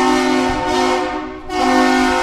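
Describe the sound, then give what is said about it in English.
A loud, deep lift bridge horn blasts over a shipping canal with strong steady harmonic tones, dipping briefly midway before sounding again at full strength, with no voices present. “So on the half hour, and as the need arises, the horn on the lift bridge sounds.”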